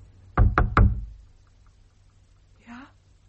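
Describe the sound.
Three quick, loud knocks of a hand on wooden window shutters in an even rhythm, followed after a pause by a brief, faint voice.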